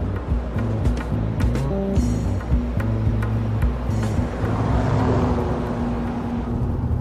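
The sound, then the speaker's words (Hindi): A rattling old car, just started and being driven off after being stolen, drives along steadily, its engine droning low with harmonic hum and clattering, rumbling noise throughout, continuous with no talking. “मेरी समझ में नहीं आ रहा है, अगर तुम बहुत होशियार हो तो एक महंगी और अच्छी गाड़ी मारते, इस बेचारी की ये खटारा गाड़ी क्यों चोरी की तुमने?”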